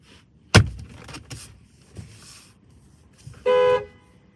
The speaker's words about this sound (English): Honking at my dog to stay out of the trash.